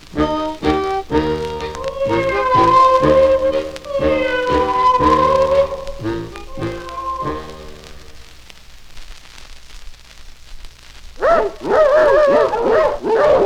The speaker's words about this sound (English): I wonder why those dogs are barking so loudly today. Hark, hark, the dogs do bark, the beggars are coming to town.